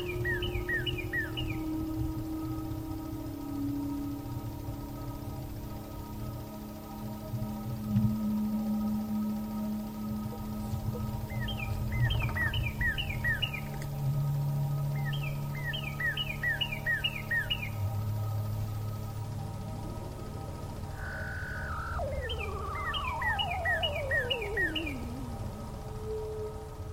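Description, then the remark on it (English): A woodpecker's sharp, high calls ring out in short repeated bursts every few seconds, moderately loud over a steady low outdoor rumble, with a few other faint bird sounds scattered throughout. “There's one of those woodpeckers.”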